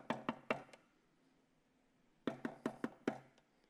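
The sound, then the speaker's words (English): Knocking on a door as a demonstration of how to knock: a quick burst of four raps, a short silence, then a second volley of five or six sharp knocks. Fairly loud, with no voices. “No, we don't knock like that. How do we knock?”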